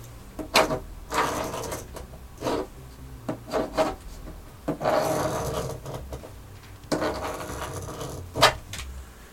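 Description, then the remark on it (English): Repeated rough scratching strokes on a wooden surface, coming from a basement and heard at the basement door, in irregular bursts with brief pauses between, a dry rasping texture, moderately loud with no voices. “At this point, my heart was pounding between my ears, and I was having trouble focusing, but I knew where the scratching was coming from.”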